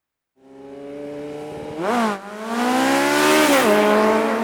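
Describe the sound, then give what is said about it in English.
A Suzuki GSX-R750 sport motorcycle accelerates hard down a block, its engine whine climbing through two quick gear shifts before rising again as it races past. “The Suzuki GSX R750 motorcycle was built for speed, and it whipped down the block.”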